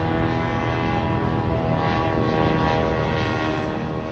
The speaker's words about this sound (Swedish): Ja, det här ska alltså vara ett drönarljud från en privatinspelning av en drönare över Moskva, publicerad av brittiska tidningen Telegraph.